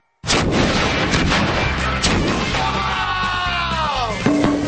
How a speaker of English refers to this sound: Drain disasters. All right. Sewer explosion. 3, 2, 1.